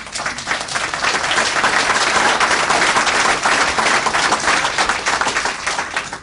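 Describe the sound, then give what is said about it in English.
A crowd breaks into sustained, loud applause, a dense wash of many hands clapping at once, holding steady for several seconds before easing slightly at the end. The audience at a speech applauds when asked to show they are against NAFTA. “So, if you are against NAFTA and you are here today, would you give me a round of applause?”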